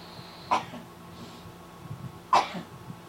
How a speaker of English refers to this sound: Are you sneezing or coughing? Yes, very good. Very astute observation. You're sneezing? Yeah, no, I was. I'm done. Sound like you? I couldn't tell if it was a sneeze or a cough. No, those are sneezes.